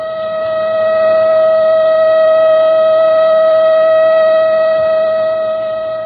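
A loud siren sounds continuously for several seconds, holding a steady, piercing tone with buzzing harmonics, swelling slightly at the start and easing near the end. No voices are heard.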